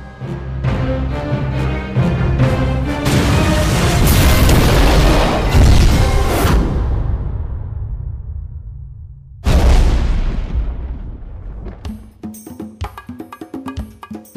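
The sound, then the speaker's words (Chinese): Two heavy cinematic explosions from a film's 3D-created scenes, each a loud, deep boom that rolls into a long rumbling decay, the second arriving about nine seconds after the first, followed by scattered crackles and debris. No one speaks. “然后就是还有很多在片子里面，比如说撞车啊，然后或者是车子爆炸啊，然后或者是地裂啊、桥倒塌，那些全部都是 3D 的。”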